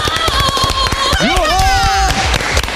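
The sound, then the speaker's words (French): Rapid, dense clapping from a small group runs through the whole clip, with voices calling out over it in rising and falling cheers. “On applaudit quand même.”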